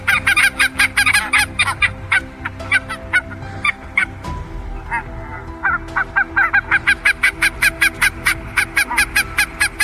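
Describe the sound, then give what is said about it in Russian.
Barnacle geese calling, a flock giving rapid, loud, short yelping barks in overlapping bursts, with steadier regular runs of calls near the start and end over a low background rumble. “Это голос белощекой казарки.”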